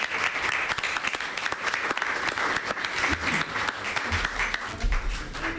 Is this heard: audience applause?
yes